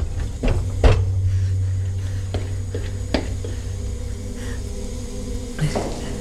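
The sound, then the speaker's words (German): The heavy door of a cold room shuts with a solid thud and latch click, followed by a few faint knocks and clicks, all over a steady low mechanical hum like refrigeration machinery. “Die Tür nicht zuschlagen, nicht zuschlagen.”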